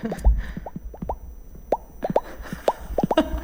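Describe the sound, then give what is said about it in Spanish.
Someone imitates a partridge call with their mouth: a quick, uneven string of hollow, upward-bending pops, like dripping water, repeated about twenty times with no talking. “No, es que os iba a preguntar, como sois de pueblo de una manera o de otra, si sabéis hacer aquí delante del micrófono el sonido de una perdiz.”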